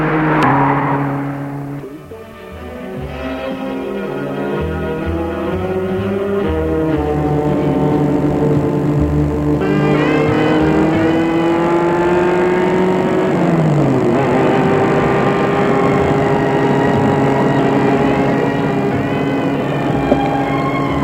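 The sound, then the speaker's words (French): A man starts an unlocked car parked in front of a house: the engine cranks and catches, then idles and revs with a steady rumble whose pitch climbs and shifts as it keeps running, with no voices. “Il entre dedans et la met en route.”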